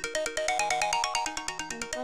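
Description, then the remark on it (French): A bright electronic alarm clock ringtone plays a quick, repeating melody of chiming tones with a steady bouncy rhythm, clear, with no voices over it. “Donc, je te fais écouter des sonneries, tu me dis laquelle tu choisirais, toi.”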